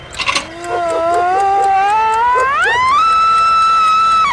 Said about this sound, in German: Dieser elektrische Wecker schreit, anstatt zu schnarren.